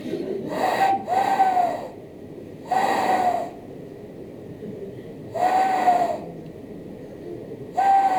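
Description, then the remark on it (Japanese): An owl hoots in a slow, regular series, four breathy calls spaced a couple of seconds apart, each a low, slightly falling tone; the first comes as a quick double hoot. “はい、2つ当たったお友達がいました。フクロウです。”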